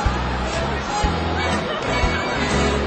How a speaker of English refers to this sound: Jostling home with crowds on the subway.